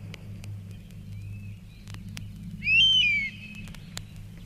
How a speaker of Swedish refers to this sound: så kanske vi skulle kunna spela lite bivråk här.